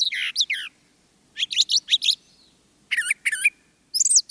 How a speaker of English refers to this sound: While mockingbirds usually repeat a song or phrase three or more times before moving on, brown thrashers tend to repeat a phrase only twice.